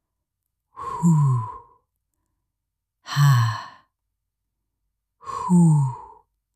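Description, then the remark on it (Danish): Three slow, evenly spaced breaths, fairly loud, each a long voiced exhale like a heavy sigh, separated by short stretches of silence: an astronaut breathing inside his space helmet. “For inde i hjelmen kunne han høre sit eget åndedrag.”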